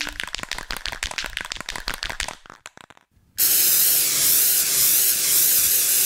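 Quick, rhythmic rattling clicks give way to a short silence, then a loud, steady hissing spray jet bursts in and keeps blasting without a break until the end: a giant snake, Cobra Khan, spraying a jet of corrosive venom toward a microphone.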